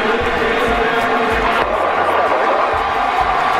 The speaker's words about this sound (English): Listen to the crowd. Oh, they went crazy.